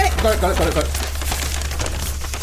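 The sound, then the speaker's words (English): Paper crinkles and rustles in a run of quick, dry crackles as a paper airplane is handled and unfolded, with a brief voice at the start. “Amazon sellout toy on a paper airplane.”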